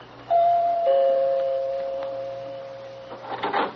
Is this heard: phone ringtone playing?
no